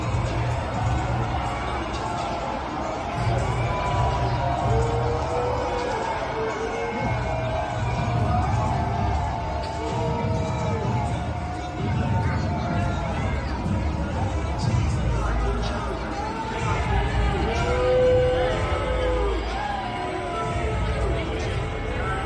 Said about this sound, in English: He was indeed greeted by boos. We have the video here. Here's Trump's SUV showing up. You'll hear jeers and all sorts of stuff.